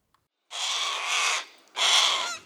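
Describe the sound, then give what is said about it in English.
Two loud, raspy caws from a giant bird flying toward a person, the first drawn out for nearly a second, then a brief pause before a second harsh cry. “Morgiana knew the giant bird had spotted her. It was flying toward her.”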